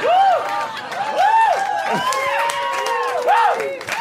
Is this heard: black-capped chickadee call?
no